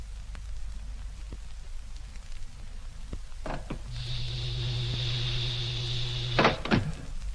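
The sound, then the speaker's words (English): A ship's main door opens with a sharp clunk, then a steady two-toned electric hum and whine for about two seconds, ending in a couple of heavy thumps, over a constant hissing background. “Well, let's open the main door and get inside.”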